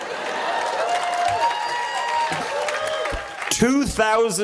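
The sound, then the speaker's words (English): An audience of the graduating class of 2012 claps and cheers steadily for a few seconds during a commencement speech, with a murmur of crowd voices, and loud whoops and shouts rise near the end. “See, as a joke, I wrote hold for applause, and I was actually gonna read that.”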